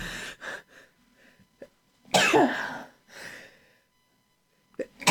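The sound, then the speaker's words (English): Several forceful coughs and a sneeze from a person who is sick with congestion. One loud explosive burst comes midway, with rougher throaty coughs before it, a softer breathy one after, and a final sharp cough at the end. “Oh, well, if you guys ever wanted to know what I cough like, what I sneeze like, what I sound like when I'm sick, I guess, I don't know, affected.”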